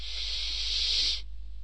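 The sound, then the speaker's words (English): A long, steady breath drawn in through the mouth, fairly loud, a smooth airy hiss lasting just over a second before stopping abruptly. No one speaks. “Breathe in.”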